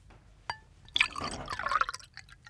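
A short clink is followed by about a second of bright, splashing Chianti wine pouring into a glass in a kitchen, fairly quiet, with no voices.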